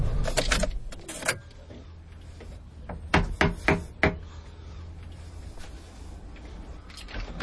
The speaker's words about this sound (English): I'll just knock on the door, I suppose.